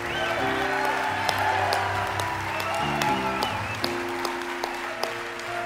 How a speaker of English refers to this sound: I want you to cheer them on like this actually is a big deal. Go ahead. Go ahead right there. Everybody, come on, cheer them on. Come on!